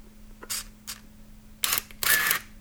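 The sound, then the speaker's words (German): Camera shutter clicks with no beep: two short, crisp bursts followed by two louder, longer mechanical shutter sounds, bright and sharp, over a faint steady low hum. “Das ist das gleiche ohne Piepsen.”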